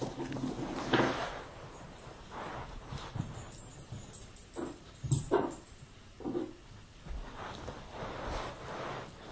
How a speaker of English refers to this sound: Behind me, our puppy was going onto the bookshelf and picking up his bones. And he was deciding from one bone to another. And he'd pick it up and put it down. He'd pick it up and put it down.